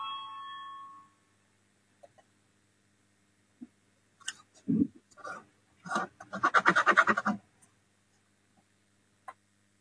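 A short electronic chime, the voting bell in a parliament session, rings clearly at the start, then stops. A few scattered clicks and a cluster of muffled knocking or rustling sounds follow, with no voices present.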